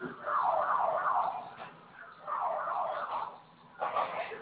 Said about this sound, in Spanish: Ya. ¿Se silenció la alarma? Sí, sí.